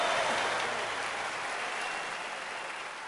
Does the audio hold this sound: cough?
no